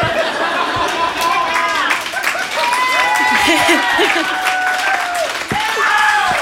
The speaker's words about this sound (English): Ladies, hello! That's so nice. The guys cheering, that's nice.